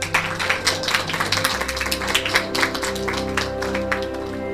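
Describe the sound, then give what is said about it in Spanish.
A crowd applauds for the teachers and all the school staff, dense overlapping clapping that stays steady and fairly loud for several seconds, with a low sustained musical drone underneath. “Y sobre todo, un aplauso para los maestros, las maestras y todo el personal del colegio.”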